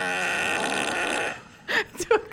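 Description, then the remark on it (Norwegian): A loud, sustained buzzing fart sound effect, added afterwards in editing, lasts over a second, then cuts off, followed by a few short vocal bursts. “Akkurat den prompen kan være at jeg har lagt på etterpå.”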